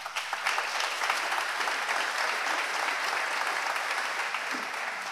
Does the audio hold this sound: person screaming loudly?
no